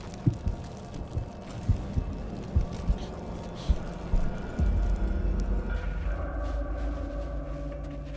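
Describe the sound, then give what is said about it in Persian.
Muffled, deep heartbeat thumps of prey being squeezed by a boa snake pulse steadily for several seconds, the gaps stretching as they slow, before a low sustained rumble swells up and takes over. “مارهای بوا شکارشون رو فشار میدن تا اینکه دیگه هیچ ضربان قلبی رو حس نکنن.”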